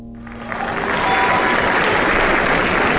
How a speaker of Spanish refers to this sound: Un aplauso grande y apretado para Hans Christian Andersen,